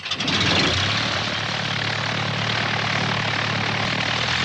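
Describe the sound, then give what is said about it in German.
A superlight Morand-Saulnier Rallye MS 800 propeller plane drones steadily as it climbs to 1,500 feet heading for Chartres, its engine a constant, loud buzzing hum with a low tonal rumble that holds level throughout, with no voices present. “Fluglehrer Alain Marchand, ein ehemaliger Marineflieger, steigt auf 1500 Fuß, nimmt Kurs auf Chartres und parkt schnell seine superleichte Morand-Saulnier Rallye MS 800 in der Flugzeughalle.”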